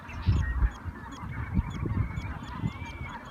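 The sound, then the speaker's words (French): A flock of migratory geese honking together, many overlapping calls in a steady, busy chorus, with a low rumbling flutter of activity underneath and no voices. “Le 9 mai, les Nations Unies célèbrent dans le monde entier la Journée mondiale des oiseaux migrateurs et plaident en faveur d'une coopération internationale pour leur conservation.”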